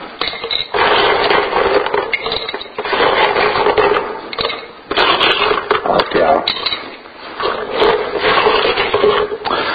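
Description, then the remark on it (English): Small rocks clatter and rattle as they drop into a container, coming in several dense bursts of gritty, scraping noise separated by brief pauses. “see how many of these little rocks you can get in there”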